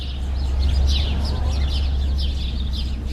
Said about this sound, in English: Birds chirped with excitement as people walked into the Provo Airport